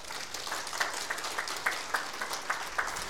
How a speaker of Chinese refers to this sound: 给你掌声，我们神先。